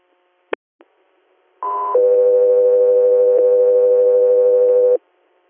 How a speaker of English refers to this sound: Guthrie Air, standby for tones.